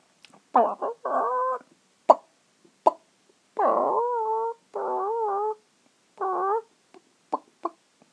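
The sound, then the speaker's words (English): A person imitates a chicken with a series of nasal, warbling clucks and drawn-out squawky calls, loud, broken by short sharp clicks and pauses, with no ordinary speech. “Chicken. Chickens cluck.”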